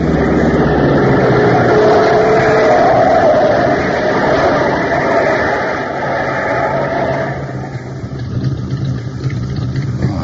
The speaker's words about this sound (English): Look at the way those lights are bouncing. Souped up, I'll give you odds. Hey. What's the matter? That car's on the wrong side of the road. On the wrong side? He must be out of his mind. He's coming straight at us. Look out!